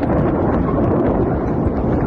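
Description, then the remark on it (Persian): A heavy explosion rumbles through eastern Tehran, Iran, amid attacks between Iran and Israel, a loud, dense low roar that rolls on steadily without any clear break or pause, with no voices heard. “تصاویر منتشر شده از وقوع انفجار در منطقه در شرق تهران حکایت دارد.”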